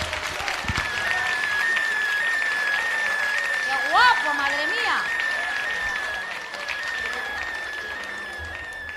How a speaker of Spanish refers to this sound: ¡Aplausos! ¡Aplausos!